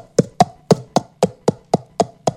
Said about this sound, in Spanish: Un caballo.